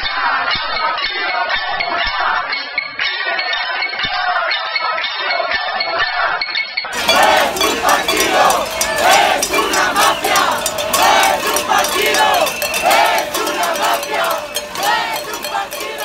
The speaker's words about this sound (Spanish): Popular en Madrid y en otras ciudades donde llevaron a cabo caceroladas. Ilegalizar al Partido Popular, no es un partido, es una banda o ladrones, fueron algunos de los lemas que acompañaron durante horas a los golpes de sartenes, pitos y pancartas.